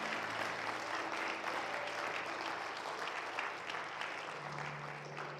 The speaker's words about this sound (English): He is God over everything. Can we give that God a hand clap this morning? Thank you, Jesus.